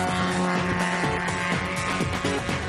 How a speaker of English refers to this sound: He's breezed through the hardest section of the circuit, and now Shane is really putting pedal to the metal along the home stretch.